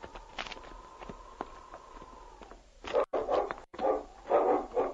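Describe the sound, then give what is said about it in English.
After a few seconds of clopping footsteps under a steady high tone, a dog named King breaks into a run of loud barks, several sharp yaps in quick succession, barking at a big pile of rocks while searching for a lost puppy. “He's barking over at that big pile of rocks.”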